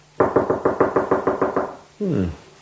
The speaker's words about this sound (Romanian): Și totuși, uite că bate cineva. Intră!